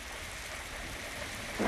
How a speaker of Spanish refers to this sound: Además de los saludos, también se registraron sonidos de todo tipo. Incluyeron vehículos, animales y fenómenos naturales. Por ejemplo, el sonido de la lluvia.